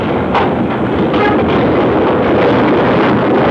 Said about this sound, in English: from the rear, you hear the rumbling echo of a one-eyed dragon. We'll wait just a second until this mine locomotive passes. This is the locomotive that's been to the temple. The cars have been dumped and they're empty, returning to the working place.